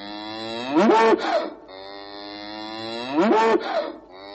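An old cow moos twice, each call a loud, drawn-out low bellow with a rising harmonic swell, separated by a pause of about two seconds; no voices are heard.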